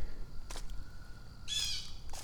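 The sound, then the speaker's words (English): A bird gives a few harsh, squawking alarm calls outdoors by a creek, with one louder, raspy burst in the middle and shorter ones around it, no one talking. “Okay, what are these guys alerting on? See, hear that guy? Squawk, squawk, squawk.”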